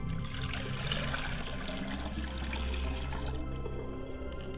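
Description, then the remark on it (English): Water is poured onto the ground as a libation, splashing and trickling steadily in an unbroken pour: a soft, continuous liquid rush lasting several seconds with no voices. “I pour libations to the ground so that where the water hits, it will take root and it will spring up, and the word will abide in the hearts of men and women.”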